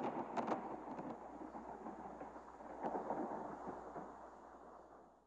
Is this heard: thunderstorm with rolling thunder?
yes